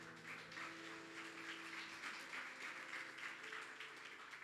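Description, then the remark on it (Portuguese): A church audience applauds the Lord Jesus steadily, a dense wash of many hands clapping at once, sustained and fairly loud throughout, with a faint tonal hum underneath and no talking. “Você pode aplaudir ao Senhor Jesus?”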